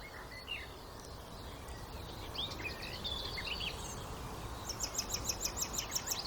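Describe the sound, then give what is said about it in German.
Outdoors, scattered bird chirps give way to a blackbird's rapid series of sharp, high chattering calls as it flies up, repeated evenly over the last couple of seconds. “Das klang auch wie eine aufliegende Amsel so ein bisschen.”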